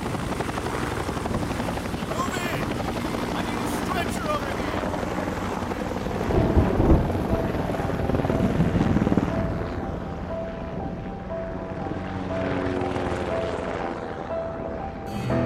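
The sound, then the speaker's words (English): A medevac helicopter drones steadily, its rotor thump and engine whine forming a loud continuous roar with humming tones, swelling briefly in the middle before settling back to a constant rumble. “We gotta get this guy on the bird. Need a medevac.”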